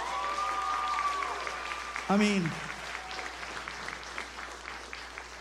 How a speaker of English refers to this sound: Now, you guys can slow clap on that if you want to, but I think we need to give some praise and worship up.